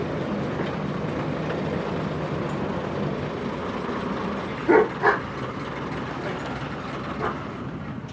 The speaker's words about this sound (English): You know what that reminded me of? When we were on the steam trains on the Isle of Man. Very, very similar. Wooden carriages, it's a diesel train, but you know, it didn't really matter.